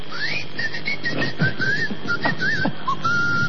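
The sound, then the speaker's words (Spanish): Someone whistles sharply, a series of short, shifting-pitch whistle notes over a steady noisy background, clear, lasting a few seconds with no talking. “Y pega un chiflido.”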